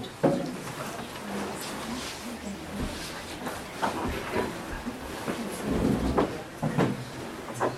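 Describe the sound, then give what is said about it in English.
A couple of chairs are carried and set down so more people can sit, with scattered wooden clunks and scrapes, over a steady murmur of indistinct voices and general room noise. “Why not bring a couple of chairs so that more people, and then everyone else can again move up.”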